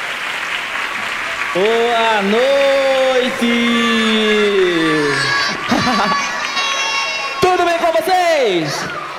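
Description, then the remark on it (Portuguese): A crowd of children, asked to shout out for joy, lets out a long, high-pitched collective shout, holding and wavering it for several seconds. They then cheer again in a second rising yell over steady crowd noise and some clapping. “Agora dá um grito!”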